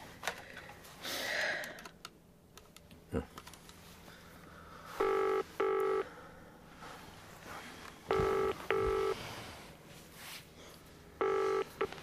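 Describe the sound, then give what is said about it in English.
A phone number is dialed, with a few faint clicks and rustles, then a phone line's ringback tone sounds three times, each a short double burst, spaced evenly a few seconds apart. Nobody speaks. “Well, what about Alice? Have we got her number? It's on the phone.”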